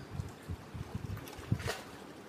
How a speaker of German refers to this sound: Du hörst also gerade den Indischen Ozean.